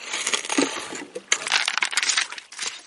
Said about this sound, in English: Panning for flecks of gold on the banks of the Mekong River in northeastern Thailand.